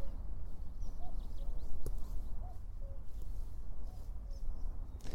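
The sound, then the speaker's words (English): A cuckoo calls faintly a few times, its soft two-note hoots repeating over steady outdoor wind noise and rustling footsteps of walkers on a hike. No one speaks. “Oh, there's a cuckoo. Can you hear it?”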